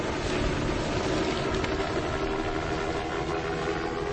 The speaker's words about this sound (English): Now it seems to be a helicopter, a black helicopter, moving away